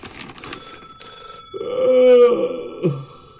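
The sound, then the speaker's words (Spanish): A telephone bell rings in short bursts in a house, then a long, low voiced groan swells and fades, with a thin high tone running throughout. “¡Atendé el teléfono, che!”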